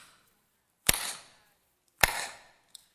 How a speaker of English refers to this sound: And then his hands went up. And he clapped three times.